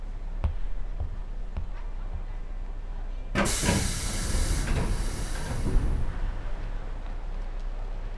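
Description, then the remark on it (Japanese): A sharp pneumatic hiss bursts out as the door of the Revival Train releases on arrival, holding loud and broad for a few seconds before tapering off over a low rumbling background. “さあ、扉を開けましょう。”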